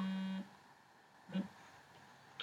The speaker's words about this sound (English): So I'm going to dial my mobile number. Press send. Okay, it's dialing.